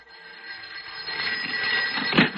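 A telephone rings on a Saturday night with a continuous shrill, metallic buzz that holds steady and grows slightly louder over a couple of seconds, with no voices present.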